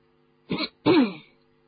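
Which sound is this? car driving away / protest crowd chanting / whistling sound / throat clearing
throat clearing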